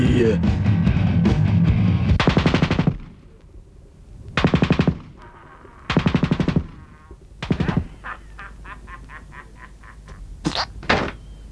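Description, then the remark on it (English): Loud bursts of rapid cannon fire from Judge Dredd's motorbike-mounted cannon shooting a perp's leg off, several volleys of fast repeated blasts separated by short pauses, with lighter clattering shots and a low rumble in between. “Being a man of tact, and rather than waiting for an answer, Judge Dredd's bike cannon blew the perp's leg off.”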